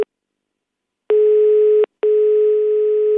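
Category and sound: signal or alarm, telephone ringing tone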